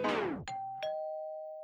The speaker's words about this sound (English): At the very end, it cuts off with this doorbell.